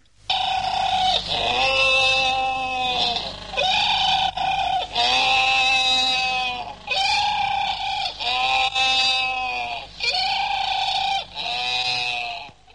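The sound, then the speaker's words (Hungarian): A crowd of colony-nesting penguins brays loudly and nonstop, many harsh donkey-like calls overlapping one another in rising and falling bursts, with no talking. “A telepesen fészkelő madarak között leghangosabb a pingvin, amelynek szamárordításra emlékeztető a hangja.”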